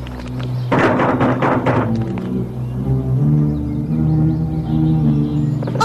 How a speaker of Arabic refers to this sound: ما هذا؟ اقرعوا الباب.